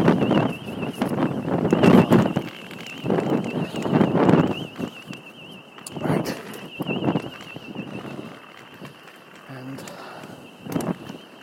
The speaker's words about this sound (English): The problem is it's windy, I can't hear anything.